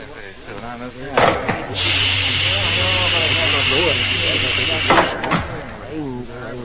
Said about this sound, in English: Meanwhile, Jet's ship had touched down on the nearby landing ground.